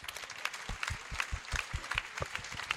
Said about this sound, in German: Aber jetzt stellvertretend diesen Applaus, meine Damen und Herren.